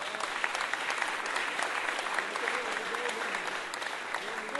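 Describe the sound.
An audience claps steadily in a dense, continuous wash of applause that holds at an even level throughout, with scattered voices faintly audible beneath the clapping.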